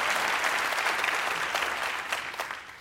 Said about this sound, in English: Yeah, clap for that. Clap for that.